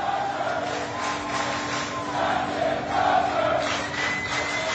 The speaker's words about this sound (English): And as he walks down the gangway off the ship to an awaiting car, and it's a scene, it's just remarkable, Michael, and that the whole crew that's gathered, hundreds in this huge hangar bay, are chanting and cheering for the captain.